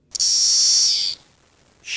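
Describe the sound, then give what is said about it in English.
Magicicada cassini periodical cicadas make a loud, steady, high-pitched hissing buzz for about a second, then fall silent briefly before the buzzing swells again. “Magicicada cassini makes the white noise sound.”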